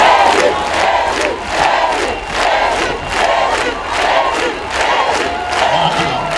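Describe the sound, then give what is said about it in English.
An audience claps for Jesus during a healing service, in a steady, even beat, about two claps per second, over a loud, continuous wash of cheering and shouting voices. “They are clapping for Jesus.”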